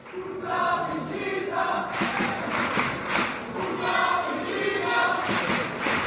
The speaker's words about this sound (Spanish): Grito de guerra, ¿eh? De esta chiricota de los pibes.